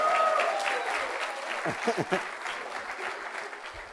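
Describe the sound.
An audience in Portland breaks into steady applause, a dense crackle of clapping that holds at an even level throughout, with a brief voice cutting through around the middle.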